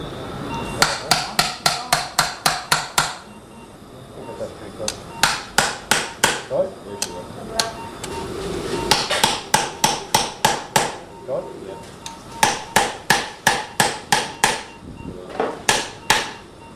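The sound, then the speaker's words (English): Sharp hammer blows tap a size 54 titanium hemispherical hip socket, with holes for screws, into place during hip replacement surgery, landing in quick bursts of several strikes separated by short pauses, with faint murmuring underneath. “So this is a titanium socket, it's a hemisphere.”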